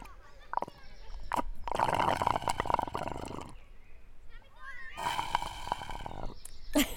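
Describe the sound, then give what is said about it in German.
Two loud, rasping slurps through a straw from an empty iced tea, each lasting a couple of seconds, gurgling and sputtering, separated by a brief pause. “Und ich höre, dass dein Eistee leer ist.”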